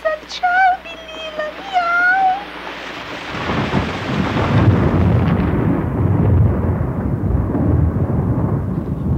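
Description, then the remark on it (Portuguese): A few short, high chirping tones give way to a loud, rolling rumble of thunder over steady, heavy rain that keeps pouring until the end. “Pessoal, está chovendo, pessoal.”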